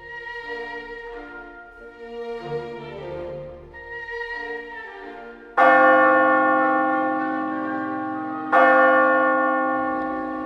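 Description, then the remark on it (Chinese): Church steeple bells peal in an overlapping, rolling sequence, calling people to church, then two loud single strikes ring out a few seconds apart, each humming on in a long, shimmering decay. “不久后，教堂尖塔钟声把所有的人都召唤了去。”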